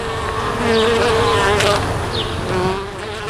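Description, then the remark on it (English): Honeybees kept at Tiny Happy Urban Farm, an urban farm in Richfield, buzz steadily in a dense, droning hum, with a few higher whines briefly rising and falling above it. No one speaks. “I have chickens and a big garden and fruit trees and bees.”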